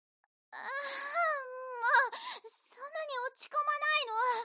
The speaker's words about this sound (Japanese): 泣いてもダメ。どうせ泣いたふりだっていうの分かってるんだから。